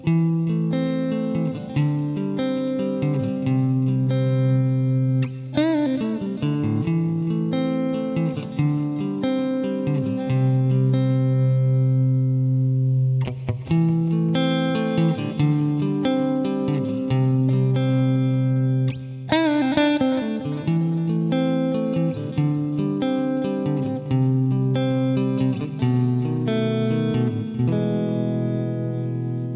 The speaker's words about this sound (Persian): صدای گیتار الکتریک در حالت کلی به دو نوع مختلف تقسیم میشه: زلال یا کلین و خشن یا همراه با دیستورژن. صدای کلین گیتار الکتریک اینطوریه.